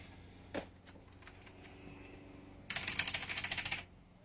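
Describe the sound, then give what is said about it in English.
Rapid clacking of someone typing on a loud Razer mechanical keyboard, a few scattered keystrokes at first, then a dense burst of fast, bright clicks. “This is fucking keyboard. Oh, it's this loud fucking Razer thing.”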